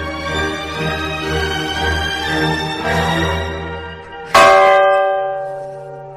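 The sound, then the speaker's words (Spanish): Church bells of about 400 kilograms each ring the festive toll called A Minerva, rung on Corpus Christi day at mass and in the procession: overlapping strokes hum and sustain, then a fresh loud strike near the end rings on with a bright, lingering tone. No voices. “Ese toque, por cierto, se llama A Minerva y se tañe el día del Corpus Christi tanto en misa como en la procesión.”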